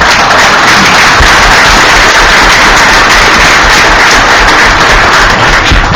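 People applaud steadily for several seconds for two volunteers standing to receive it, a dense, loud wash of many hands clapping at once with no pauses and no voices.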